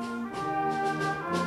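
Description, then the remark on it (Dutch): A brass and wind band, the harmonie orchestra Kunst en Genoegen from Maartensdijk, rehearses in its rehearsal room, playing sustained, full chords at a steady, moderate volume, with a slight shift in the notes partway through. No one speaks. “Je hoort het al op de achtergrond. Blaasmuziek, dit is harmonie, kunst en genoegen uit Maartensdijk.”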